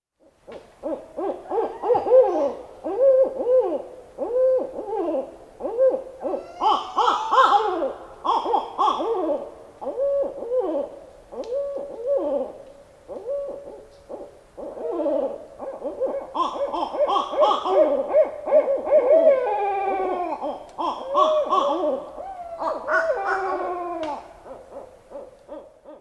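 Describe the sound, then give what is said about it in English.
Barred owls hoot loudly and continuously, several calls overlapping in rhythmic phrases that rise into excited, wavering, cackling outbursts, with no talking. “And barred owls do variations, but if you listen long enough, you'll pick up on it.”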